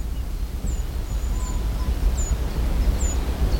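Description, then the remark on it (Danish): A small treecreeper running up a tree gives thin, very high calls about five times at roughly even intervals, faint over a steady low rumble of wind or background noise. No one speaks. “Den hedder træløber, og den er ikke særlig almindelig.”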